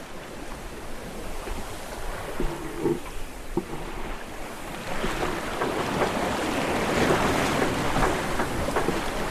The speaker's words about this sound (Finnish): mutta tuommoisella reippaalla tuulella 14 metriä, niin, ja sitten mitä se on puuskissa vielä enemmän, niin kyllä tekee mieli olla jo jossakin aika hyvin visusti kiinni ja tallessa jonkun saaren suojassa.